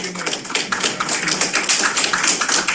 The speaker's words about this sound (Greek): Σε χειροκροτάνε τώρα όλοι εδώ.